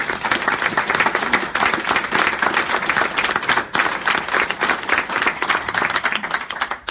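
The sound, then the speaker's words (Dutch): Sustained applause from an audience for the volunteers and helpers, dense and steady clapping from many hands filling the whole stretch at a loud level, with no voices standing out. “zou ik toch even voorstellen voor een groot applaus voor iedereen.”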